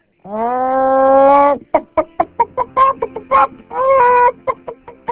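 A hen lets out a long, drawn-out squawk, then breaks into a quick, uneven run of short clucks, loud with no talking.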